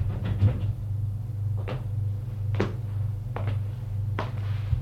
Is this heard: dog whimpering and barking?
no